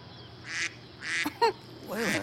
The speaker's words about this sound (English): Do you hear that? Yeah, I know what you're thinking, but it's not me. There's a duck somewhere on the Moses display. It's not programmed in the sequence.